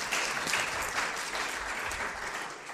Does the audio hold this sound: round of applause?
yes